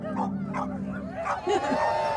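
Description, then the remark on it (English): Several dogs bark, yip and howl together in a loud, overlapping chorus, their cries rising and falling in pitch without a pause for about two seconds. “And for 5 minutes, these dogs barked and howled and yelled.”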